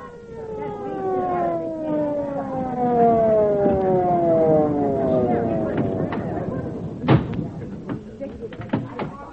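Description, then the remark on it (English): An ambulance siren wails loudly with a falling, drawn-out tone that gradually winds down as the vehicle arrives, followed by a few sharp thumps and knocks. “Who called the ambulance?”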